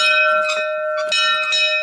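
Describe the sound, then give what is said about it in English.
A door bell at the Commanderie du Temple rings loudly, a sustained metallic tone with a few sharper clangs struck at intervals across about two seconds, with no voices. “Well, let's ring the bell then.”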